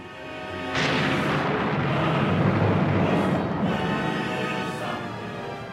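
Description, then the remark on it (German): A storm at sea: a dense, roaring wall of wind and crashing water swells up suddenly after a quiet moment and keeps churning loudly, with deep rumbling underneath and no voices. “Aber welches Schiff würde bei so einem Sturm mit vollen Segeln fahren?”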